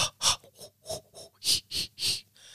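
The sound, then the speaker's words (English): Quick, rhythmic Lamaze-style breathing: about eight sharp, breathy puffs in a steady hee-hee-hoo pattern, moderately loud, with no talking. “Are you having a baby? That's Lamaze.”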